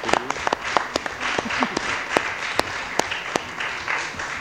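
People at a municipal council meeting applaud steadily after a motion, many hands clapping at once in a dense, continuous patter with a few sharper claps standing out.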